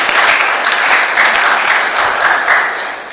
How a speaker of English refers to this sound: See, that's it. Let us give a clap to the Lord. Zatleskejme Pánu.